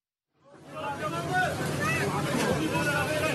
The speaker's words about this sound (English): Tourists and locals use buckets to fill a tank on a pickup truck with seawater to douse a nearby advancing fire.